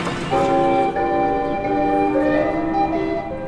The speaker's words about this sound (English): You'd hear the balls bouncing off the thumper bumpers and the bells ringing, fun for all.